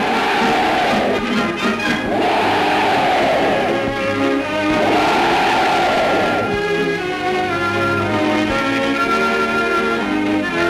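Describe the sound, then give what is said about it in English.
A large crowd of 10th Army soldiers cheers Mr. Churchill loudly, raising three swelling hurrahs in a steady rhythm before breaking into a sustained, dense roar of many voices. “It was the 10th Army's turn to cheer the chief.”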